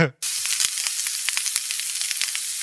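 Food sizzling on a grill: a steady, bright hiss of frying fat peppered with irregular sharp pops and crackles, loud and continuous after a brief tonal blip at the very start.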